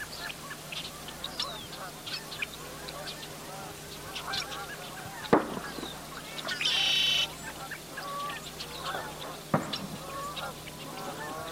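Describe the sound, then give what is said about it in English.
At dawn, as the sun comes up, geese honk repeatedly amid a busy chorus of small birds chirping and tweeting, with a couple of sharp pops cutting through the outdoor ambience. “I was really lucky the one day when I went out and got a cow and a dog and all these other little birds and geese coming up with the sun.”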